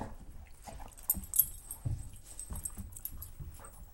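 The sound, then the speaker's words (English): Amanda, an 8-year-old black Labrador retriever guide dog from Seeing Eye, whimpers softly in short bursts, with shuffling and scuffling movement sounds and light taps, as if shifting around restlessly. No one speaks. “Oh, it sure is fun getting some good Amanda sounds on my recorder here.”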